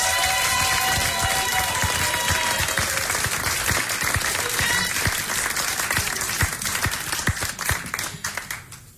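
Steady, dense audience applause sustains for about nine seconds, loud throughout with scattered sharper claps, then thins and tapers off near the end; no one speaks.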